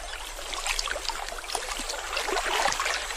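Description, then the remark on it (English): Shallow floodwater, fallen as rain in the highlands of Angola, trickles and bubbles steadily across parched ground in the Okavango in the dry season, a continuous wash of fine splashing and gurgling with no voices, holding a fairly even level throughout. “The water drives out insects from the parched ground, which are snapped up by plovers.”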